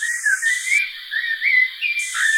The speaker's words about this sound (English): I recorded one blackbird who was actually saying one word by whistling, like in Silbo.